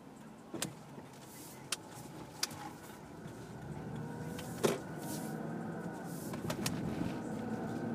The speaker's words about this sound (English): All these cars. Too many cars.